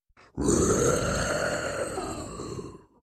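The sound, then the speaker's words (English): A single loud, guttural monster roar aboard the ship Marlow rumbles deep and raspy for about two and a half seconds, holding steady before tapering off, with a brief low growl just before it. “How are we supposed to instill order if there's some sort of roaring monster aboard the Marlow?”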